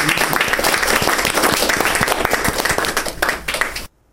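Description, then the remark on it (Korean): An audience applauds steadily for about four seconds, a dense wash of many hands clapping, then the sound cuts off abruptly into silence. “박수.”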